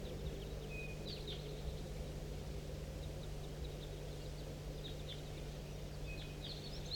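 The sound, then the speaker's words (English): A big flock of birds in flight gives scattered, faint high chirps and twitters that come in small bursts over a steady low hum and constant hiss; no one speaks. “Start recording a big flock in flight.”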